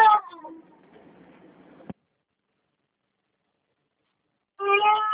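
During a phone call, a baby cries in two high, wailing bursts, a loud one at the start that trails off into a soft murmur, then a sharp click and silence before the crying starts again.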